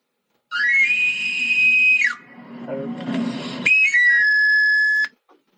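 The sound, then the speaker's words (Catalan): The whistle of an itinerant knife grinder, who goes from village to village sharpening tools, sounds twice, each a shrill sliding call that settles on a sustained high note, loud, with a brief low murmur between the calls. “Sí, d'aquells que anaven pels pobles esmolant les eines i fent sonar el xiulet, l'afilador.”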